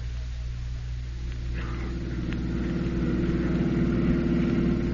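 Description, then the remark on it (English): A car engine runs steadily throughout, a low, droning rumble that holds constant, swelling slightly louder toward the end, with no voices over it. “Let's get the car and get back to the park, boys.”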